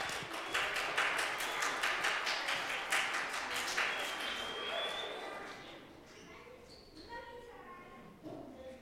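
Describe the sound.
An audience applauds together, a dense burst of steady clapping that holds for about five seconds before fading out, leaving a few quieter voices afterward.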